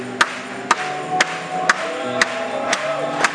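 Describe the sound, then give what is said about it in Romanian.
An audience claps together in a steady rhythm, about seven sharp, loud claps roughly half a second apart, over a continuous background of crowd voices and sustained tones, applauding in praise of Jesus. “Hai să o aplaudăm lui!”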